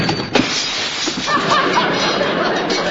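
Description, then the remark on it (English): A door slams with a loud thud, and its newly fitted glass pane breaks in a burst of shattering glass, with scattered tinkling shards that rattle on for a couple of seconds. “But don't slam the door because I just put a new glass in it and it might break.”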